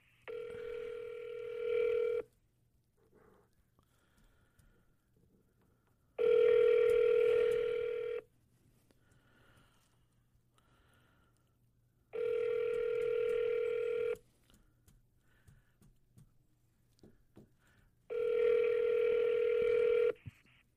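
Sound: telephone line tones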